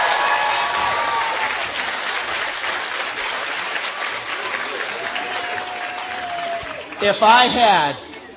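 A crowd applauds with steady, dense clapping, joined by a sustained whistle partway through and a loud whooping cheer near the end as the applause swells.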